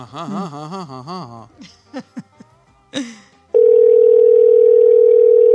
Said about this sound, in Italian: Il terzo squillo.